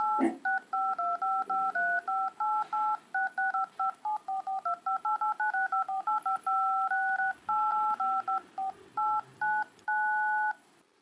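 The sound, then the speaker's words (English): A long run of telephone keypad tones as a phone number is dialed, dozens of short dual-pitched beeps pressed in quick, uneven bursts, clear, ending on one slightly longer tone, with no voices. “It's ringing.”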